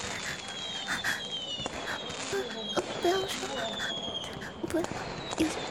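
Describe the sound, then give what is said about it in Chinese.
Fireworks pop and crackle while people watch, several sharp bursts at irregular intervals over a steady hissing background, with faint voices murmuring beneath. “还好大家现在都在看烟花”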